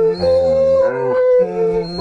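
Dogs howl the Christmas carol We Wish You a Merry Christmas, with loud, sustained tonal howls rising and falling in the tune. There is a brief break midway before the howling resumes.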